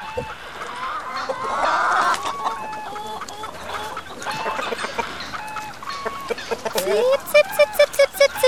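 A flock of chickens cluck busily as they are fed, overlapping short mid-pitched clucks and squawks throughout, growing into a quick run of sharper, louder clucks near the end.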